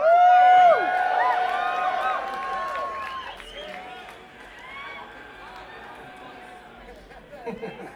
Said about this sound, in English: That's the joke. Don't make me hit this clap sample again.